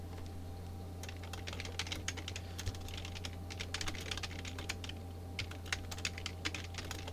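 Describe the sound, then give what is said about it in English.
Rapid, irregular clicking of keys on a computer keyboard, continuous for several seconds, with a steady low electrical hum underneath and no voices. “Listen to me typing, children.”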